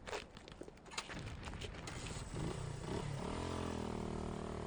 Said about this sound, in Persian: پشت سر بیسیمچی با موتور تریل به سمت نهر جاسم رفت.